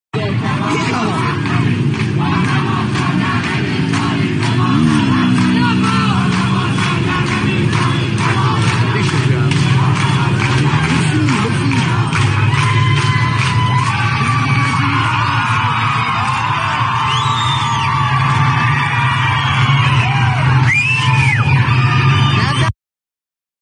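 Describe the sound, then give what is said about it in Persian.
A large crowd at a street demonstration in the town of Eghlid yells and shouts continuously, a dense roar of many voices with rising whoops and cries breaking through, loud and sustained for the whole stretch. “نگاه کنیم به مردم غیور اقلیت، یک نفر هم در تظاهرات تیر خورده که اطلاعاتش به ما خواهد رسید.”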